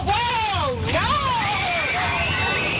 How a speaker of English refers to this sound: We turn now to a school bus driver allegedly drunk on the job in Washington State. The frightening video from inside that bus, and you can hear the children screaming in fear.